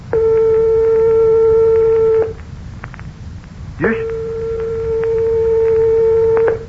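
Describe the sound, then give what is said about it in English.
Two steady, sustained pure tones play one after the other, each lasting about two seconds, separated by a short gap. They are only one-eighth of a tone apart in pitch, over a low, noisy background hiss. “Here are two tones only 1/8 of a tone apart, or 1/4 of the distance of separation from the closest tones of your piano.”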